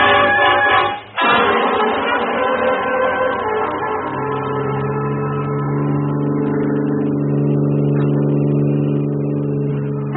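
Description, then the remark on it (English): A car engine roars up loudly after a brief dip, then holds a steady, strong droning hum as the vehicle accelerates and keeps running, with no voices. “Get in the car, kid, quick.”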